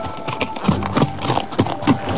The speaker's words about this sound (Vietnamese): Bỗng nghe tiếng gió ngựa dồn dập, trên đường cái một người phi ngựa chạy như bay tới.